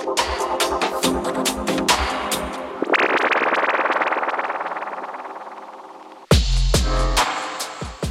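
A loud, distorted dubstep passage from a five-track record: choppy percussive hits and gritty synth textures, a sustained buzzing wobble mid-section, then a sudden drop into deep, booming bass with sharp drum hits.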